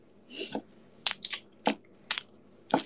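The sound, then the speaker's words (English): Garlic being smacked sideways with a knife before chopping: a run of sharp, crackling crunches, about six of them spread irregularly over a few seconds, each a short bright burst with a brittle, papery snap. “First, you gotta hit the garlic. Like that. Yeah, maybe give it a nice smack.”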